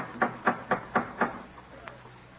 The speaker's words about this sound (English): Who's knocking so loudly, Martha?